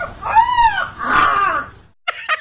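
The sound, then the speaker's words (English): A Chinese puppy, looking like a young golden retriever or Labrador, in a farmyard howls in imitation of a rooster's crow it hears: two drawn-out, wavering calls that rise and fall, followed after a brief pause by two short, sharp yelps. No one speaks. “He's walking around in a farmyard, and he hears a rooster crow, and the dog imitates the rooster.”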